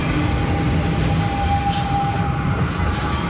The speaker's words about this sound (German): Mit dem Dampfbahnverein Zürich Oberland reisen wie vor 100 Jahren.